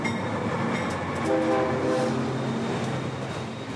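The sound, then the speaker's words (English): A freight train of La Bestia, the network of trains migrants ride across Mexico, rumbles steadily along the tracks, with a continuous low roar, metallic squeal and clatter, and a brief horn-like tonal blast partway through. Fairly loud, no voices. “That's what they call the network of trains that migrants hop and ride the length of Mexico.”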